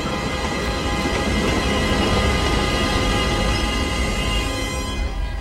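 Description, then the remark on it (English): A train enters a tunnel through a mountain and then reverses, its rear carriage emerging on the other side. It rumbles in a dense, steady, loud roar, with metallic ringing tones running throughout and no let-up over several seconds; no one speaks. “villagers stand, waving their hats in the air as the train is swallowed up into the blackness of the tunnel. It reverses, the rear carriage emerging from the tunnel on the other side of the mountain.”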